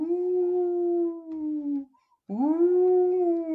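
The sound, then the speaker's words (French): A wolf howls twice in the mountains, each call a long, steady, mournful tone; after a short pause the second howl swoops up sharply and holds. Clear, with no other sounds. “Puis ce fut un hurlement dans la montagne.”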